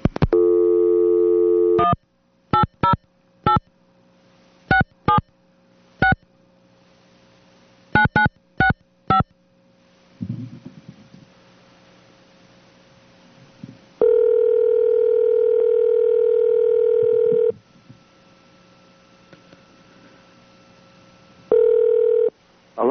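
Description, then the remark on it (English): A phone call to Uncle Cyril being placed: a steady dial tone gives way to a quick series of keypad tones, then a brief rustle of line noise before long, loud ringback tones buzz on and off as the call connects. “So let's try to see if we can get Uncle Cyril on the phone.”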